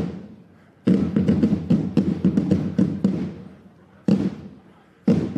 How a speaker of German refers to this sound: Eigentlich jede Trommlergruppe, wenn sie dann mal da ist und was macht, ist der Hammer. Und gibt richtig Schützenfeeling. Man kann es, glaube ich, ganz gut hören.